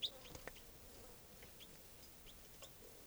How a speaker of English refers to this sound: And that's 305 chittering there. That was a wild bird flying.